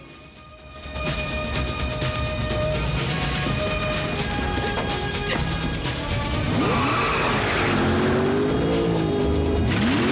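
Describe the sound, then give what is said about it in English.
A powerful red sports car engine roars loudly, revving hard as the car speeds off a ramp by a quayside, with rising and falling pitch sweeps near the end as it accelerates away. No talking. “Jackie sees a red sports car on a ramp. He runs and jumps in it and roars away.”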